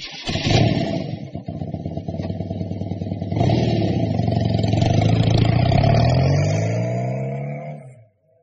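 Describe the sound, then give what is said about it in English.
A motorbike engine sputters and clatters, then revs up hard, its pitch climbing steadily for several seconds before cutting off abruptly. No voices. “He can ride a motorbike.”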